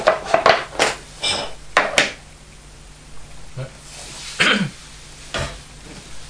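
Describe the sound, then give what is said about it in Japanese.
Plates are handed around and set down with a series of short, light clatters and knocks at irregular intervals, with a few brief voice sounds mixed in. “はい、お皿を。みんなもお皿を。お皿あるじゃん。”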